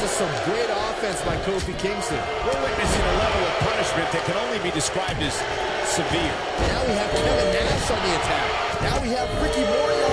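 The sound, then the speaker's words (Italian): Repeated heavy thuds of wrestlers slamming onto a ring mat during a six-man wrestling match, including a Russian leg sweep by Kevin Nash, loud and scattered through steady crowd noise with voices talking over the action. “Russian leg sweep da parte di Kevin Nash.”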